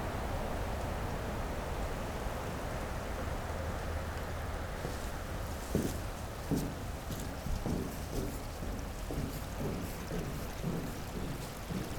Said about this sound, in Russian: Здесь можно провести часы в полной тишине. О присутствии человека напомнят шаги по металлическому мосту на противоположной стороне водоема.